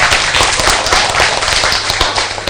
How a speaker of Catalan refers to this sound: El que podem fer és fer tots un bon aplaudiment, perquè ho heu fet molt bé.